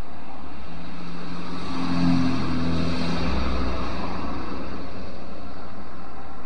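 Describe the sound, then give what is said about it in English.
Dense city traffic in Moscow roars steadily, with a constant wash of engine rumble and tire noise as a vehicle passes with a louder, deeper growl. No one speaks. “Not long ago, on a trip to Moscow, where the traffic strikes a noisy contrast to the quiet campus of the Hackley School, Pavel Litvinov agreed to return to Red Square to revisit and recall the scene of his 1968 protest.”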